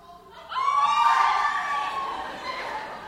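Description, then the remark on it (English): A group of people at the Pyramid of the Sun imitate a jaguar's call with overlapping, high-pitched wavering cries. The cries swell suddenly after a brief quiet start, then hold loud for a few seconds before slowly fading. “Yet again, if you listen close, you hear the jaguar call.”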